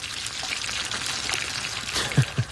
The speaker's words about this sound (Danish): Skal vi lige lytte til, hvordan det lyder, når man ikke skal stege, hvordan man ikke skal stege en bøf